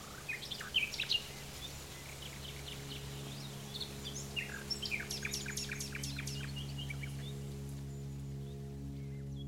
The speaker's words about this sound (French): Et un lecteur nous affirme avoir entendu les rossignols lancer leur première trille.